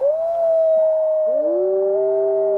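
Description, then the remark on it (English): Long, sustained wolf howls at night in the woods: one steady high howl carries throughout, joined midway by a second, lower voice that glides and wavers beneath it. Loud and clear, with no talking. “I'm sure I heard some wolves.”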